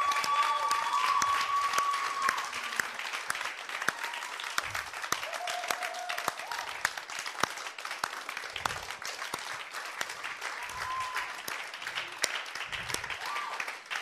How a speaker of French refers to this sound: Will you stand? On va se and will you put your hands together